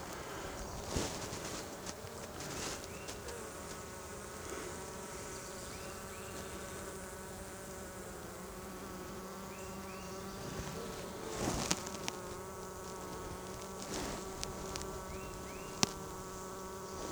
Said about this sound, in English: No brood pattern for drones. It seems to be all worker bees.